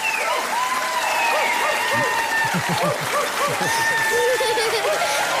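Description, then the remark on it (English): A studio audience at the toy show keeps cheering over steady applause during a five-minute segment, with many overlapping high 'woo' shouts rising and falling in pitch, some short and yelping like barks, loud and continuous throughout. “Now, by the way, I only went and watched 5 minutes of it, and these are the woos from a five-minute segment.”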